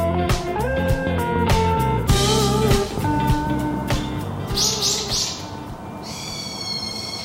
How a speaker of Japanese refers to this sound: もう新年だからね、もう爽やかな鳥の声よと思ってたんだけどね、うん、鳥がね、寄生虫かな本当ね、 どこに 行ったんっていうぐらいね、出ないのよ、この正月。どこ行った？ 知りません いないな、うん、そんな中でね、もう必死で取り立ったなんかちょっと今日はちょっといまいちのピヨピヨちゃんたちでした